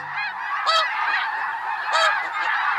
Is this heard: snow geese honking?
yes